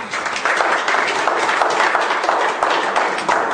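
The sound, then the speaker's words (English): An audience claps steadily, a dense, even patter of many hands that holds at a fairly loud level for several seconds without a pause. “Give them all a hand of applause.”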